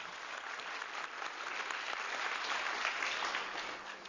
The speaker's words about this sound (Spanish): Un aplauso.